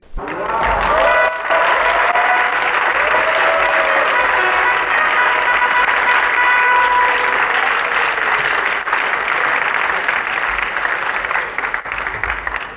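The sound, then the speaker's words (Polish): A theatre audience at the Golden Masks award ceremony applauds steadily and loudly for about thirteen seconds in the evening, a dense wash of clapping with a few voices and tonal cheers rising through it early on. “Dziękuję ogromnie za te brawa.”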